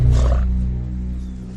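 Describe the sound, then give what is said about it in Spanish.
A bison herd bellows in a deep, rumbling roar, loud and rough at first, then settling into a sustained low drone that slowly fades. No one speaks. “¡Bisontes, señor conde, bisontes!”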